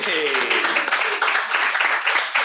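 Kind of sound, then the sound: crowd, studio audience applause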